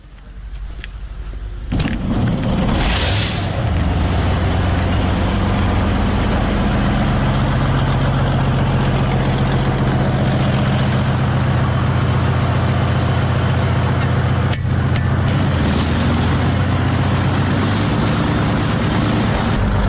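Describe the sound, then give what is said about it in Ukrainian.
After a brief quiet moment, the engine of a heavy artillery vehicle, filmed at work in the Bakhmut direction, roars as it drives out and stays loud, a deep steady rumble with a sharp clank partway through. “Машина, мощная машина.”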